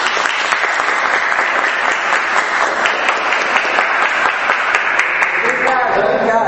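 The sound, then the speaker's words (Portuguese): A crowd claps steadily in sustained, dense applause, loud throughout, with many overlapping hand claps and no pauses. “Vamos bater palmas.”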